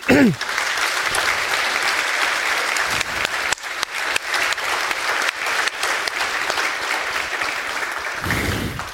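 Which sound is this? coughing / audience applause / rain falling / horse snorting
audience applause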